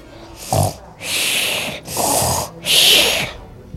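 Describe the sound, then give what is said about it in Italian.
A voice imitates snoring with four rasping, breathy snores in a steady rhythm. They are fairly loud, with no talking around them. “Il merlo si avvicinò al granchio Piero, che stava facendo un pisolino e russava così.”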